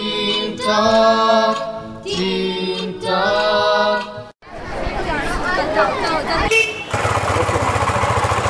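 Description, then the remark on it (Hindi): An old motorbike rattles and putters as it arrives after school ends, its rough engine noise growing into a steady low drone near the end, with some chattering voices and bustle heard earlier. “तुम अब आ रहे हो अपनी खटारा पर?”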